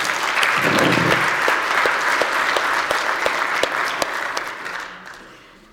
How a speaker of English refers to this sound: He's not here. He's in Sunday school. But can we give a clap and a shout out to Chris Postma, who put this all together?